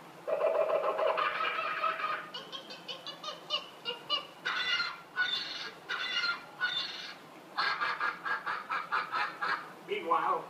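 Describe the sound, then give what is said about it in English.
A voice imitates a frenzy of outraged birds exploding from the treetops, a fast run of loud honking, cackling calls in choppy bursts with short gaps, energetic throughout. “Suddenly, the treetops explode in a frenzy of outraged birds.”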